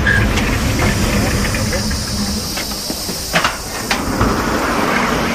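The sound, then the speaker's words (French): The engine of the Jules Verne II, a hydrogen-powered river passenger boat in France, hums steadily with a broad hiss as it docks in the afternoon near the green bank of a Loire tributary. A few metallic knocks and clunks break through the constant rumble. “Le Jules Verne II vient d'accoster près de la rive verdoyante d'un affluent de la Loire.”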